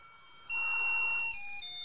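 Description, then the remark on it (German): A tinny, single-voice electronic sound-chip version of a song plays from a device being tried out after water was filled into it, in thin, steady high tones, stepping between a few pitches in a short jingle loop. No one speaks over it. “sondern es ist auch noch so eine furchtbare Ein-Ton-Soundchip-Version.”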